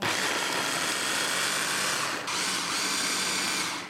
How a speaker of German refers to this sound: So, jetzt? Jetzt müssen wir den Mixer anschalten.